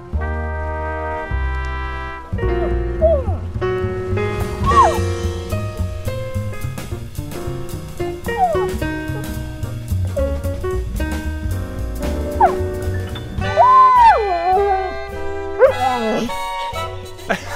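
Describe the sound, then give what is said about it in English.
A dog howls along to its favorite tune, long rising and falling wails sliding over a steady melodic tune with rhythmic accompaniment, the howls growing louder and more drawn-out toward the end. “We got that full-on howl.”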